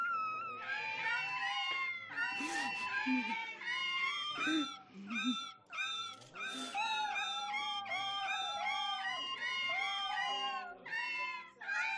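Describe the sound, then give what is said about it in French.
Several cats yowl and wail loudly without pause as keys are struck on the orgacha, a keyboard of boxes holding seven cats with their tails tied to the keys, their drawn-out, wavering cries overlapping into a dense, continuous, shrill chorus. “Quand Johnny frappait une touche, le chat hurlait.”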